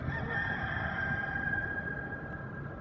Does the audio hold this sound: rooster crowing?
yes